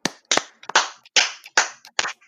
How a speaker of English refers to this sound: Start from four this time. Four, three, two, one. Four claps.